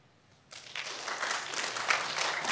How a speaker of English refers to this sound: Clap for her.